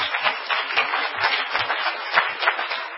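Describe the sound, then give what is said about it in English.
A crowd claps together in a steady, dense wash of applause that holds at an even loudness for about three seconds, with no voices standing out. “Let's clap our hands and thank God for that.”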